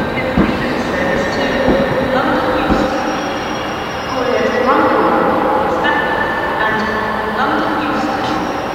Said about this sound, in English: The train is just pulling up in the background, the London Midland train.